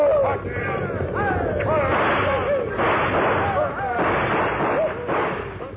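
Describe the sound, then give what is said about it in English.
Scattered gunshots, fired at an oncoming herd of buffalo, crack through a loud, continuous din of rumbling and wordless shouting voices, with several sharper bursts standing out over roughly six seconds. “Keep firing.”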